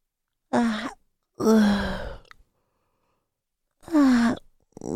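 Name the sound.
yawning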